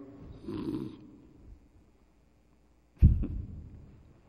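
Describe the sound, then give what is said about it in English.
A person mimics snoring: a rumbling inhaled snore around half a second in, a pause, then a sharper snorting exhale near three seconds, fairly loud, with no speech. “Snoring.”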